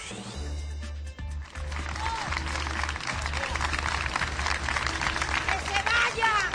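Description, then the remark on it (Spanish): A large outdoor crowd of more than 200 protesters in front of the Teatro Campo Amor claps steadily while scattered voices shout and cheer over the applause, building slightly in intensity throughout, with a low rumble underneath. “Ni los aplausos, ni los gritos de las más de 200 personas que se manifestaron este lunes frente al Teatro Campo Amor”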